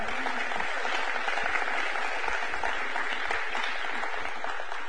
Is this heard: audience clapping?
yes